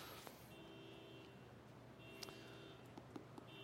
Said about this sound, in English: Well, with a car alarm going off, I certainly hope that we actually have a burglar.